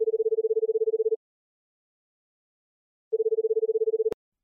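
phone call dialing tones

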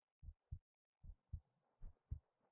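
heartbeat

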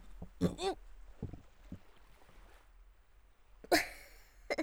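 burp

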